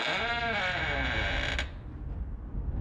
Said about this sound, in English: As Shelley approached room 1138, something didn't seem right. The door was slightly open. That's odd, Shelley muttered. Then she slowly pushed the door.